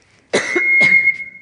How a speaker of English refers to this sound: And I'm going to cough here for just a second. Pardon me.